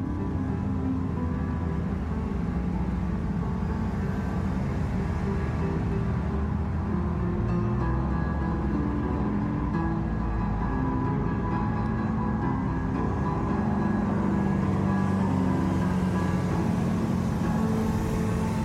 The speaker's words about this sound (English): Soothing sounds of traffic going by as well. He was playing like with the sounds of the traffic. Like you could tell, like you could know when the traffic was going by, it would get louder, so he'd play softer and come back in.